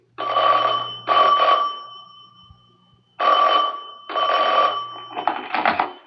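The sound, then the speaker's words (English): An old-fashioned telephone bell rings in two loud double bursts separated by a pause, with a brief clatter at the end as if the receiver is picked up. “Young enough to forget everything else in life, till a phone call brought him out of the rose-colored clouds and back to reality.”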